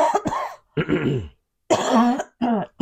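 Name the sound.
heavy coughing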